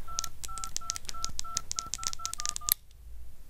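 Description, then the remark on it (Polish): A quick run of about ten touch-tone telephone beeps, evenly spaced and steady in pitch, dialing a number to call a wife, ending with a brief click before quiet background hiss. “Zaraz zadzwonię do żony.”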